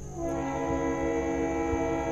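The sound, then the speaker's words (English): A CSX freight train, which passes every half hour, rolls by on the rail line once used by the South River Brick quarry. It makes a steady, heavy rumble with sustained droning tones layered over it and a faint metallic whine up high. The sound is continuous and fairly loud without a break. “You can still hear the CSX roll by every half hour.”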